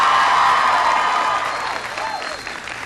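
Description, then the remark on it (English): An audience at a school event applauds the student who introduced the speaker, clapping steadily in a dense, continuous patter of many hands, loud at first and gradually thinning out toward the end. “Give Tevin a big round of applause.”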